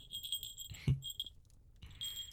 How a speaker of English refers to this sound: So, it's a collar with a bell.